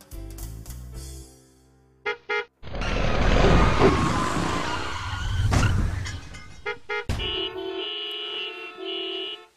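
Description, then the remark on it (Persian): A motorcycle engine hums with a few short bursts, then a loud, harsh skid scrapes on for several seconds before the steady engine tone returns, with no talking. “پیاده رو جای موتورسیکلت نیست.”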